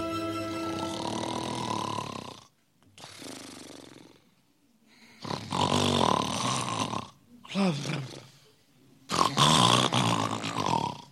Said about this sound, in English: you're snoring again. Oh, what? I wasn't snoring.